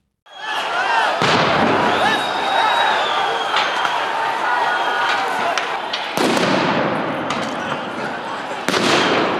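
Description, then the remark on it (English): Three sharp, loud bangs ring out a few seconds apart as tear gas and water cannons are fired, over a constant roar of crowd noise and shouting, as riot police with dogs move into the central square of Bishkek, Kyrgyzstan, to disperse thousands of protesters. “The firing of tear gas and water cannons as riot police with dogs moved into the central square in Kyrgyzstan's capital, Bishkek.”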